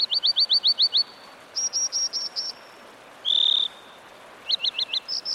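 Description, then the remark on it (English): American dipper calls: bursts of sharp, high, rapidly repeated chirps and buzzy notes in several short phrases, clear over a steady rushing background hiss. “So, if one day, as you muse by a mountain stream, you spot an American dipper bobbing and winking in your direction, don't take it personally.”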